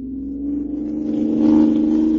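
A car engine revs and accelerates on a desert highway, leaving a following car behind, its steady low drone climbing in pitch and growing louder over a couple of seconds, continuous with no voices.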